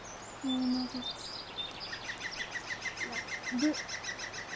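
A cuckoo calls outdoors, its low hooting notes sounding faint, set against a busy backdrop of rapid, high, repeated chirps from other birds. No one speaks.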